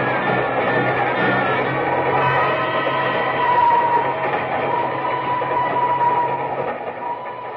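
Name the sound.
train running on rails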